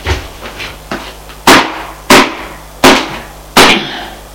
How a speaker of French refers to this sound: L'homme furieux tape sur la porte. Ouvrez! Ouvrez!